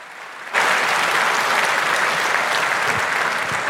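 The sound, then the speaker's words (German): Applause from an audience bursts in after a brief quiet moment and continues steadily as a dense, even wash of clapping, loud and sustained to the end, following a talk and before a question session. “Aber erstmal vielleicht nochmal eine Runde Applaus, das war doch super, oder?”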